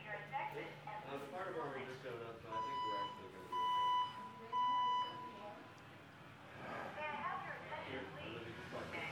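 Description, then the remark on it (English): An alarm system run by Bay Alarm beeps in a steady, repeating electronic tone, a few pulses with the last two louder and sharper, while people talk around it before and after. “I've called Bay Alarm, okay, who's in charge of the system.”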